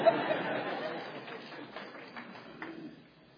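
An audience applauds in a dense wash of claps that starts out strong and gradually thins and fades away, with a few scattered claps near the end.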